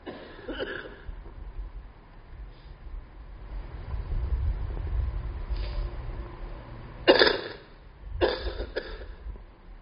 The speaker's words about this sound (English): Excuse me, the cough is coming out.